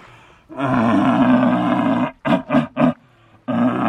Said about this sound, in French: T'as le cerf qui brame. Oui. Le cerf qui brame classique.